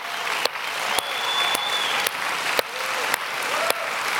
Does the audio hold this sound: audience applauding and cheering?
yes